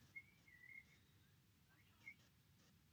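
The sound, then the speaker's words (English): A few faint, thin chirps from a bird on a chimney and roof: a short run of whistled notes, then a lone chirp after a pause, over a low, steady background rumble, with no talking. “I do like the fact that at this point, all I can hear is a bird chirping on the chimney, coming up on the roof, coming down the chimney.”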